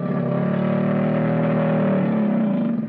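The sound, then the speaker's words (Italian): A crocodile's roar: one deep, continuous rumbling bellow, low-pitched and droning with a steady engine-like tone, loud throughout for about three seconds with no voices. “Il coccodrillo fa una specie di ruggito, che ora vi faccio ascoltare.”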